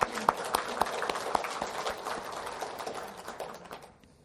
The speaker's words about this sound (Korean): 우리 자신의 부모님들을 포함해서 여기 계신 어르신들, 그리고 우리 주위에 계시는 우리 할아버지, 할머니들에게 감사하는 마음으로 우리 한번 박수 한번 쳐드리겠습니다.